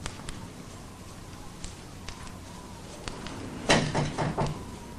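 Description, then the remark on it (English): A man shuts a door behind him: a cluster of solid knocks and a short latch rattle near the end, after a few faint clicks and taps over quiet background hiss. No one speaks. “He shuts the door behind him.”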